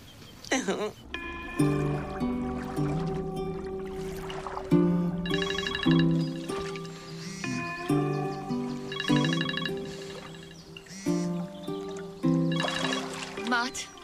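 A melodic phone ringtone plays steadily for the whole stretch, bright electronic notes stepping through a repeating tune at moderate loudness, with no voices over it.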